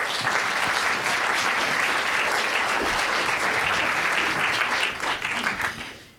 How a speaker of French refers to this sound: On peut l'applaudir à nouveau.